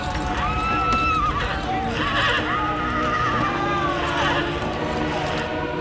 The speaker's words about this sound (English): White horses on deck move around, panicked by the carnage.